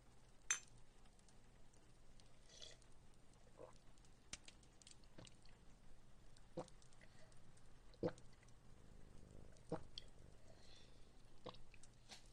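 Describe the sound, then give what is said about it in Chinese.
Glasses clink together in a toast a handful of times, short bright taps spaced a second or two apart, fairly quiet against a low steady hum with faint rustling in between. “你一杯，我一杯，来，干杯！”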